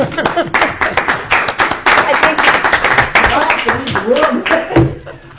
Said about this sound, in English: Well, I just want to stand up and applaud you.